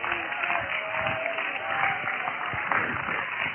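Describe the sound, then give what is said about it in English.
An audience claps their hands and shouts together, a dense, steady wash of applause and raised voices for a few seconds. “Somebody clap your hands and shout to him.”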